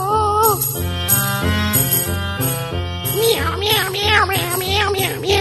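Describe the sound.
A voice imitates a cat, singing a run of quick rising-and-falling meows over bright, upbeat backing music in the second half, after a stretch of steady instrumental chords.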